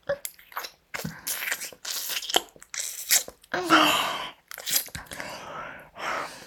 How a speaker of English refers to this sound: Slobbering and slurping, frothy little fuck slut. Her tongue dancing all over your tip. Look at her slurping at your cock.